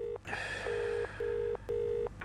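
telephone being dialed

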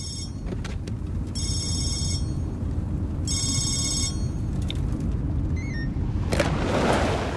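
telephone ringing

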